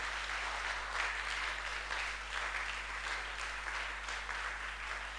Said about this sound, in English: Put your hands together. Let's clap.